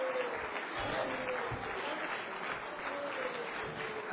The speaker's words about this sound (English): Just keep shouting. Just keep clapping. Sound man, give me a little power. Let them shout.